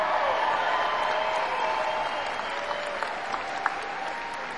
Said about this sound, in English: Before we go any further, we need another big round of applause for our pal who opened up tonight, Mr. ….